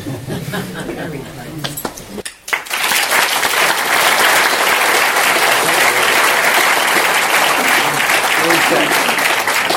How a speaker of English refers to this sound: Sweet of you to applaud when I'm actually nobody. I'm just a resident.